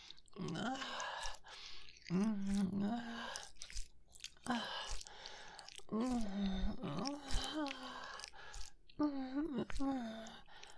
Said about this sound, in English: Good. You're breathing so heavily and moaning already. Does it really feel that good for you?